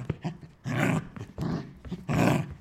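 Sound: wolf growling and snarling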